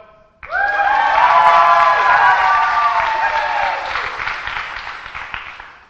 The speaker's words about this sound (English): Now, through applause, let's see who wins the chase off.